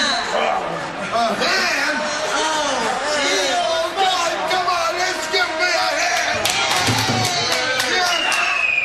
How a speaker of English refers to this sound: she cheers? Hang on, what happened? Like, she started cheering?